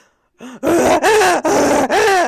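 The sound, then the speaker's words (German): A person imitates a rutting stag's bellow: a short grunt, then four loud, drawn-out throaty roars in quick succession, each rising and falling in pitch with a coarse, strained tone. “Imitiere einen brünftigen Hirsch.”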